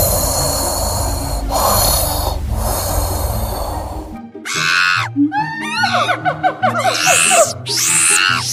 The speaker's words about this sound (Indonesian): Begitu asiknya, sampai-sampai mereka lupa bahwa ada pedagang peci yang sedang mendengkur.